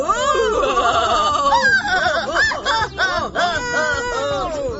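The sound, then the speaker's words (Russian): Loud, piercing ghostly shrieks from two ghosts, one white and one black, overlap in several wavering voices, sliding up and down like sirens and arching in quick repeated swoops, filling the whole stretch without a pause and with no speech. “Визг раздался такой, словно включились одновременно с 10 сирен скорой помощи.”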